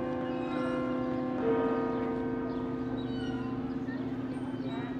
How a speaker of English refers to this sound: And then I could hear the church bells ringing twice a day. I always loved hearing those church bells because they were the same church bells that my grandmother and her siblings And my grandfather and his siblings heard as well.